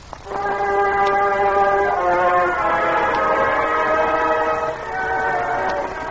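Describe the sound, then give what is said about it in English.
A train sounds a long, steady horn blast that holds for several seconds, fairly loud, with a faint rumble beneath and no voices, as it pulls into a Pennsylvania town on a late November afternoon. “Late that November afternoon, the train pulled into the Pennsylvania town.”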